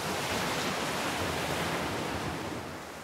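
Steady roar of ocean surf washing onto a beach, a broad continuous rush of foamy water that fades slightly toward the end, with no voices.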